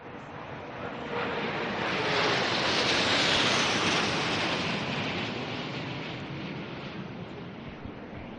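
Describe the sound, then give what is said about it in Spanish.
A loud, broad rushing roar of French air force fighter jets swells as they pass overhead, drawing the French flag in the sky. It peaks after a few seconds and then slowly fades away, with no voices heard. “Vais a escuchar el sonido de los cazas.”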